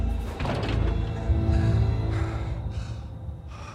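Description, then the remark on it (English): Elevator doors slide shut with a low mechanical rumble and a dull thunk, then a faint hum lingers and fades. No one speaks. “The elevator doors close.”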